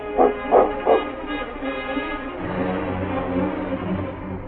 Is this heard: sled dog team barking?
yes